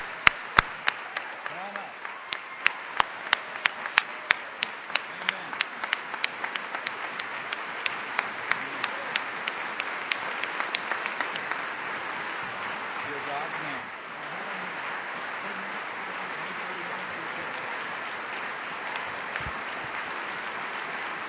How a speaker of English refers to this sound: And for standing up for Christ, we applaud you.